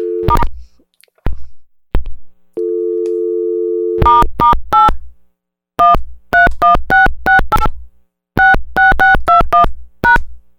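A somewhat broken phone's steady dial tone gives way to a quick run of keypad beeps as a star code and a ten-digit number are dialed, about twenty short touch-tone presses in bursts, loud, with clicks of the handset at the start.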